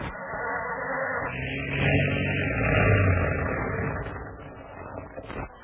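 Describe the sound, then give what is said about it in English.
A cold car engine grinds and sputters as it is started, a rough low rumble that swells in the middle and churns on steadily without any voices. “Start the engine, Pedro.”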